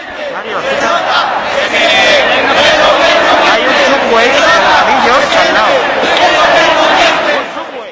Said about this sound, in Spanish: Llegamos a la sede del PP de nuevo y la gente, pese al cansancio, sigue aullando. 4, 5 de la mañana y la gente grita, hoy protestamos, mañana os cesamos. A la hora de votar se tiene que notar, asesinos mentirosos.